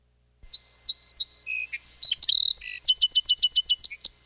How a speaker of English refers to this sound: Song Sparrow is number nine. And they have kind of like a three-part song.